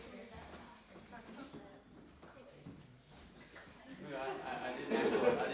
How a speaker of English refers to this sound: It's fizzing. It is.